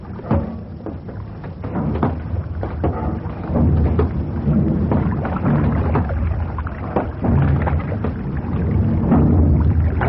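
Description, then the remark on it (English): Water sloshes and churns continuously in a flooded engine room, with a steady low rumble and occasional hollow splashes and knocks, moderately loud, with no voices. “Well, the engine room's flooded, obviously.”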